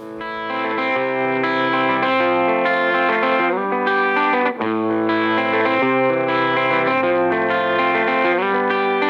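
A song's instrumental intro plays, with steady sustained chords on heavily effected, distorted guitars forming a loud, dense wall of sound that shifts chords every second or so, with no voices.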